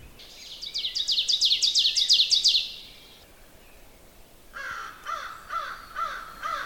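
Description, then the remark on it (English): A crow caws several times in a distant, evenly spaced series in the woods, preceded by a rapid, high-pitched bird trill. No one speaks. “I hear a crow in the distance too.”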